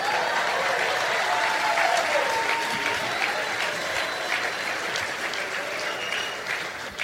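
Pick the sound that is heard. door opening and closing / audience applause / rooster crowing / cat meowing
audience applause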